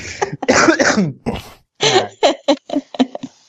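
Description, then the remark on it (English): A man's loud coughing fit: a burst of harsh, rapid coughs followed by several shorter, sharp hacks in an uneven rhythm, with no talking over them. “We need to send him some cough drops.”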